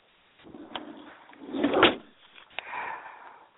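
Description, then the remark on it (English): A door is handled, with a rattling scrape building to a louder clatter, then a sharp click and a softer settling rustle, with no talking. “One second, there's some problem in the door.”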